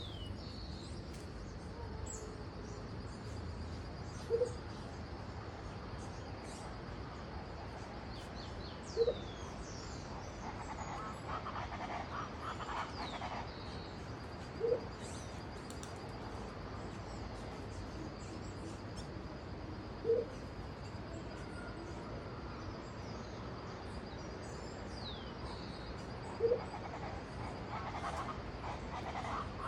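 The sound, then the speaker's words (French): A colony of birds in Colombia chatters and chirps continuously in a dense, busy wash of calls, with a sharper yipping call standing out every five or six seconds. No one speaks. “Et puis elle a également deux chats qui sont assez affectueux et qui cohabitent très bien avec cette colonie d'oiseaux.”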